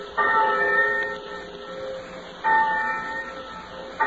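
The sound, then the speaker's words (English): A large campus bell tolls slowly, three strikes spaced about two seconds apart, each one ringing out and fading over a faint steady hum. “On many a peaceful college campus, just 1 month from now, thousands of eager college freshmen will hear a bell like this, calling them to their first college class.”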